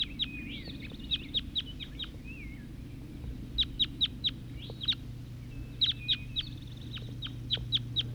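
wild birds calling

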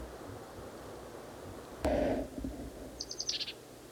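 bird calling

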